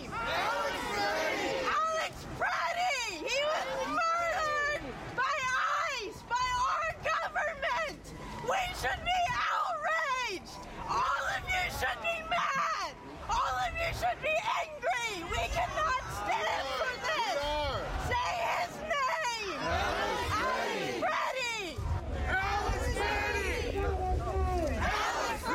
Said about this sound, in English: the stench of tear gas still in the air, protesters gathered by the hundreds at the intersection of 26th and Nicollet Avenue, where they erected barricades cutting off vehicle traffic and erecting a memorial at the site of the killing.